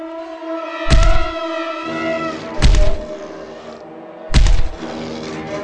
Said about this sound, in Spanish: Oigo un ruido en la puerta, como si forcejeara en ella un cuerpo inmenso y resbaladizo.